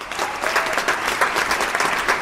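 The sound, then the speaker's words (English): A crowd applauding steadily as the curtain falls on the 17th One World International Festival of Human Rights Documentaries in Prague on Wednesday night, dense clapping with a bright, hissy texture and faint cheering mixed in, holding at a loud, even level throughout. “There were loud cheers as the curtain fell on the 17th One World in Prague on Wednesday night.”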